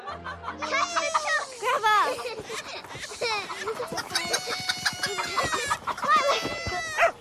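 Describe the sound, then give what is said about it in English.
A black hen, chased by two young sisters through lines of washing, clucks and squawks in agitated, repeated bursts, fairly loud, with excited children's voices mixed in throughout. “She remembers when she and her little sister chased a black hen through lines of washing.”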